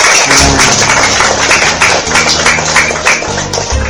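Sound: audience applause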